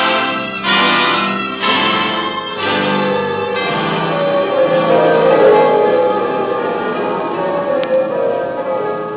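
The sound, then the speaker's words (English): Church bells in Paris peal loudly with several overlapping strikes in the first few seconds, their rich ringing tones blending into a sustained, reverberant wash. “Bells of Paris. It would seem our side has been victorious.”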